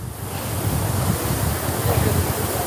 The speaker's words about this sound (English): At the Parisian landmark, the Bastille Monument, people walk through sprinklers for some reprieve. Temperatures have reached as high as 44 degrees in recent days as a deadly heat wave sweeps the country.